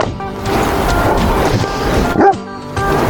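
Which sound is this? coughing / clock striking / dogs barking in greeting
dogs barking in greeting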